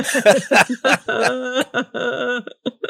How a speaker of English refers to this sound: Wow. That made me cough.